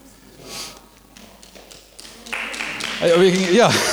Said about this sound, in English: Yeah, it's cool to clap, it is.